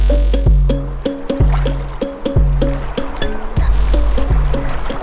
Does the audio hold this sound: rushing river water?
yes